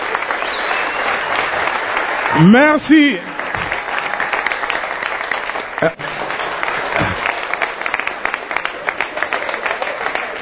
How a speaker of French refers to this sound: Malanjiwashinga, est-ce qu'on peut applaudir le maximum de bruit?